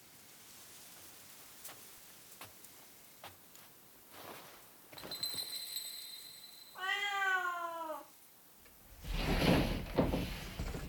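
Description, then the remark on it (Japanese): A single clear, drawn-out meow from a white cat at a Japanese ryokan (inn) rings out, framed by soft knocks and a sliding-door rumble, followed by a rushing, rain-like hiss. “この旅館の猫です。”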